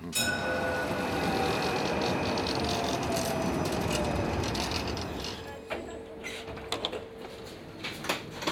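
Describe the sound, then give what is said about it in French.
A reconstructed tram ride on the Saint-Bruno Express: a tram rolls along with a steady mechanical rumble, squealing wheel tones and rattling, then the noise thins into clicks and clanks of machinery over the last few seconds. “C'est une reconstitution d'un voyage en tramway.”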